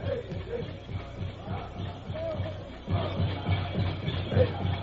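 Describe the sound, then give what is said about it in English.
A group of low voices chants a ceremonial chant together in a steady, pulsing rhythm, with a murmuring crowd beneath; Indians gathered on the great plain outside a village. The chanting swells and grows louder midway through. “There, as the time approached, the Indians gathered and raised their voices in a weird ceremonial chant.”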